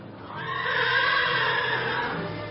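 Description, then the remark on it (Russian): A hero's faithful horse lets out a long, loud whinny lasting a couple of seconds, its strained, wavering cry rising and holding steady, with no other sounds around it. “Уж-то верный богатырский конь порчал теперь хозяина.”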